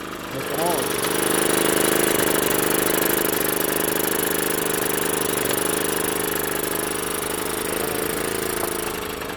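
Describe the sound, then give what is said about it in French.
A small engine, restarted for a test on a workbench after about 15 days without running, idles steadily, a continuous droning hum with a faint mechanical rattle that holds evenly throughout. “Et vu que c'est ses premiers tours de roue, il fait juste un essai sur l'établi. Et là, c'est normal que je relance la machine.”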